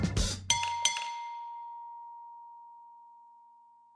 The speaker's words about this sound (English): You can ding my bell. Ding my bell. My bell. Ding my bell.